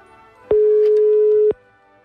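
A telephone ringing tone as a Radio Ognjišče presenter places a call to a listener in Ljubljana for a birthday greeting: one steady, mid-pitched tone lasting about a second, fairly loud and clear, with a faint background hum before and after and no talking.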